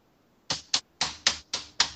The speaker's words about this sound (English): I don't know if it's true or not, but that's some fast typing and loud typing. So loud. Do you still have the 1980s keyboard? Because, like, they, like, whenever you type on it, it's really loud.